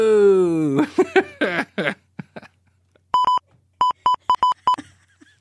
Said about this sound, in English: Oh, the fire alarm's going off.